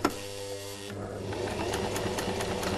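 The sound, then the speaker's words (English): A sewing machine stitches layers of fabric together into three-layer face masks in Melbourne, running steadily, its needle tapping in a quick mechanical rhythm over a low motor hum, with no talking. “Now that I've got my layers, I'm going to put them together and I'm going to sew them.”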